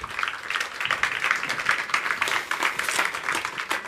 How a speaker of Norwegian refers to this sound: gi henne en varm klapp i det hun kommer opp på podiet.